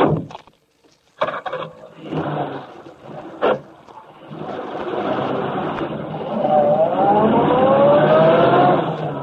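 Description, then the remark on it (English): A few sharp knocks and thumps, then a car engine settles into a steady run and pulls away, its pitch climbing as it accelerates, loud throughout. “Keep the motor going.”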